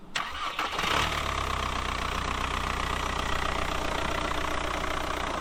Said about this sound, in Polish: Odpalamy. Świece nagrzewają się moment.